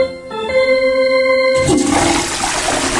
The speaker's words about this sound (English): Flushing his friend's remains down the toilets of all the Major League ballparks before he's done.